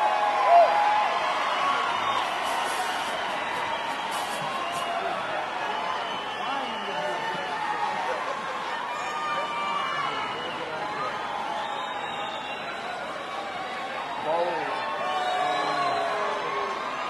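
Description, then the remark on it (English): A live Tuesday night audience cheers and whoops in a dense, continuous wall of crowd noise, many overlapping voices blending together at a steady, fairly loud level throughout. “Oh, the Tuesday night crowd, yeah.”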